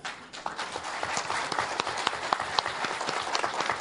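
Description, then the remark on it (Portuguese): A crowd applauds steadily for Doctor José Aníbal, many hands clapping in a dense, continuous patter with a few sharper claps standing out, moderately loud, with no talking over it. “Companheiros, eu queria pedir uma salva de palmas para o doutor José Aníbal, de todos, por favor.”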